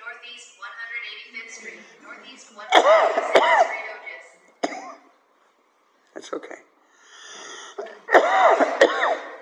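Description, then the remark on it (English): A few sharp coughs and throat-clearing bursts break out in two clusters, with a person speaking briefly in between. “Maybe my cough set it off.”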